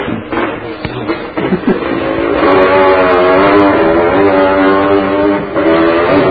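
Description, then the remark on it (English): A motorbike engine roars loudly, its steady harmonic drone rising in pitch as it revs and passes, holding strong before easing slightly at the end. “Isn't that your motorbike?”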